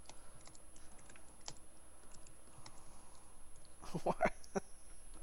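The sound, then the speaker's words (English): Faint, scattered clicks of typing on a computer keyboard while someone writes a tweet, irregular and sparse at first, then a quick cluster of louder keystrokes near the end over a low background hum. “Typing. Yeah, well, I was tweeting.”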